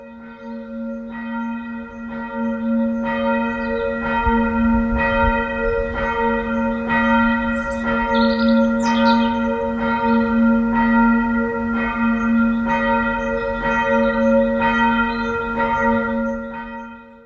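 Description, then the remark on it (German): The church bell of the Lukashaus in Twilbeke rings in a Sunday devotion, with regular, evenly spaced strikes, each leaving a sustained humming resonance that blends into a continuous ringing drone. Loud, with no voices. “Die Andacht wird von der Glocke des Lukashauses in Twilbeke eingeläutet.”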